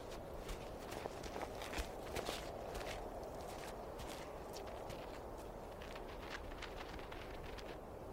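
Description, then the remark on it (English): A fox's footsteps crunch softly and steadily, a run of light, uneven steps continuing throughout against a low rumbling background, with no one speaking, as the fox stalks prey where bison have dug. “Every footstep counts.”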